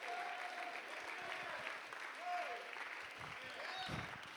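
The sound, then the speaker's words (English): A church audience claps steadily during a gospel sermon in a broad, dense wash of hand claps that fills the whole moment, with faint voices and a brief tonal cry rising over it. “Oh, somebody glad for the gospel today? Clap your hands.”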